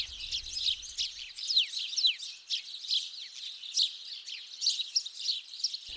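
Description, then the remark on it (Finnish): Small birds chirp and twitter nonstop, a busy chorus of quick, high, overlapping calls, with a faint low rumble under the first second. “Nekin purkaavat tuntensa laulamalla.”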